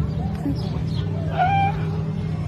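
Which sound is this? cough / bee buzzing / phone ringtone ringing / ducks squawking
ducks squawking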